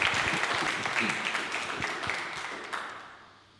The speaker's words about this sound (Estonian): Nii, suur aplaus.